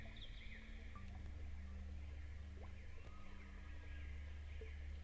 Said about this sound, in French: Les oiseaux chantent.